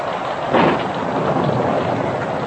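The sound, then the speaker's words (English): Heavy rain pelts down in a dense, steady hiss, with a low rumble of thunder swelling briefly early on before the downpour carries on unbroken. “Stepped out into the pelting rain.”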